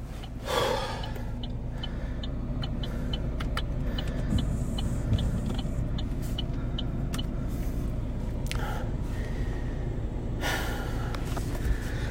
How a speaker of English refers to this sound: So this is me just getting back into the car after some extreme drama. Here we go.